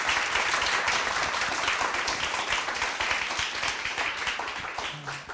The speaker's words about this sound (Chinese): 好， 好，请大家热烈掌声哈，谢谢。